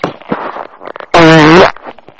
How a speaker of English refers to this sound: Did you hear that? Did you troll already? No, I farted on the phone.